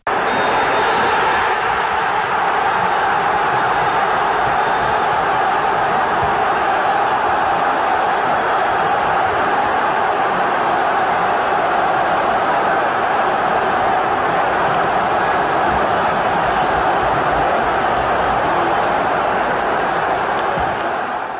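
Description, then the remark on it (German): A large football stadium crowd roars and cheers continuously after the referee's final whistle as Hertha BSC win the match, a dense, loud wall of voices that holds steady for about twenty seconds without pause. “Mario hat auch den Schlusspfiff noch kurz hier für euch eingefangen.”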